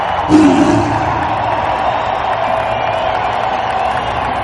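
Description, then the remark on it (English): A huge stadium crowd at a Bengals football event roars and cheers for the team's legends in a continuous, dense wash of noise, with a brief louder swell near the start before settling into a steady, loud roar. “Ladies and gentlemen, let's hear one more roar in the jungle for our Bengals legends.”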